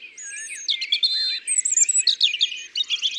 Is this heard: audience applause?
no